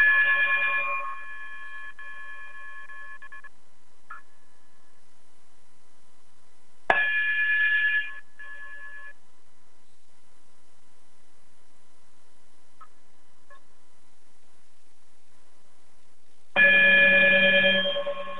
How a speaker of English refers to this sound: high frequency, yes, sir. Chime us out of here.